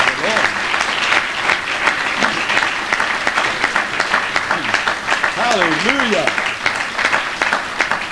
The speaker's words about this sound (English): That clap is unto our God who has changed us and is working on us and making us what we ought to be. Praise the Lord.